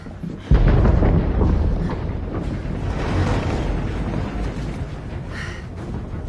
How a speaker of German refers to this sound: Ein Vulkan. Wo kam der auf einmal her? Er war schon immer da. Er war nur als Berg getarnt.